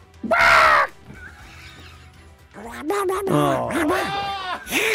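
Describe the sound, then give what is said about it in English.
A man imitates the cartoon character Daffy Duck's voice: a short, loud, raspy squawk, a brief pause, then a few seconds of sputtering, warbling quack-like vocalizing. “can you do an impersonation of Daffy Duck?”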